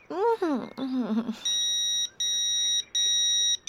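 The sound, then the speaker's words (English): A phone message notification beeps: after a brief voice at the start, three long, steady, high-pitched electronic tones sound in a row, separated by short gaps, clear. “I've got a message on my phone.”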